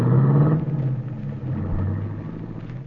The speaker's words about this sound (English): In town, you go through the motions of buying what you need to repair the broken fuel line, and then wait as the big guy gets into the limousine and is driven off toward the highway.